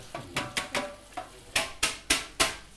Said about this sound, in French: Un peu de vaisselle et un peu d'entretien courant. Mmh. Bah oui, les grilles de la hotte.